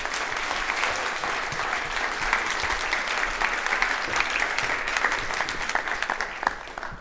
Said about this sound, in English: Could you please give a very large round of applause to Kent Bye?